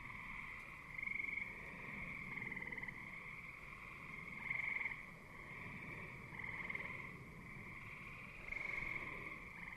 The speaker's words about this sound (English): I'm standing in the field across the street from my house in Hanacroy, New York, surrounded by fireflies, and not too far from a pond where the gray tree frogs are trilling and the bullfrogs are singing their low tones